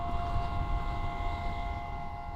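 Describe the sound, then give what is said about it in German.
Steady, sustained drone tones from a wind harp sound installation by Kalle Lahr, set up in Morocco's Anti-Atlas mountains and mounted on fog nets, hang over a low, rushing wind rumble, the pitches holding constant without a break. No one speaks. “Es ist eine Art Windharfe, die die Wolken zum Singen bringt.”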